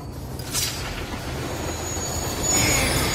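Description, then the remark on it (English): A train rumbles steadily past a station platform, heavy low clatter filling the air, with a thin metallic wheel squeal rising near the end. No voices. “A train's chaotic sound waves show several outlines of Quesada peeking out with his gun.”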